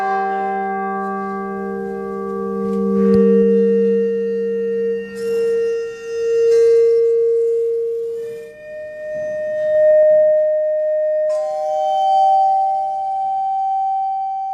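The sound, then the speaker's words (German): A bell's partial tones (overtones), made audible with a special device, sound one after another as long, steady humming pitches, starting low and stepping higher, each ringing clearly and loudly with no voices. “Die Obertöne einer Glocke aber zum Beispiel kann man mit einem speziellen Gerät hörbar machen.”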